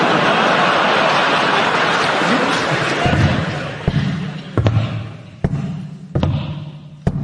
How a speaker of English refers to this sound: Ahoy there, lad. That's a clever dolphin you got there. He's making the sound of a man with a wooden leg.